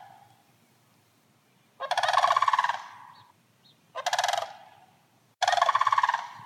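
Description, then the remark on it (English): Sandhill cranes give loud, rolling, rattling bugle calls in three bursts in a backyard, overlapping as if answering each other, with brief quiet gaps between outbursts. “We received several pictures of wild turkeys and other birds, including this video of sandhill cranes calling to each other in a listener's backyard.”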